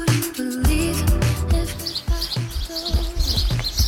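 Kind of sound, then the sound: bird, birds singing outdoors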